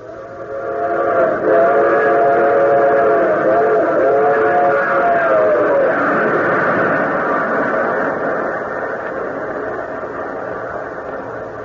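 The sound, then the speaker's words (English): A train that left Washington rumbles along steadily while its whistle sounds in a long, wavering blast that fades after several seconds, leaving the continuous roar of the moving cars. “the colonel boarded train at Washington.”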